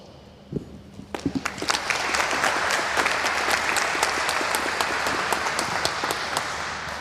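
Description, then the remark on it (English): An audience welcomes a speaker to a presentation on the architecture of secure IoT devices, starting with a few scattered claps and quickly swelling into steady, loud, sustained clapping from a large crowd that continues without letting up. “Please welcome him for a huge round of applause.”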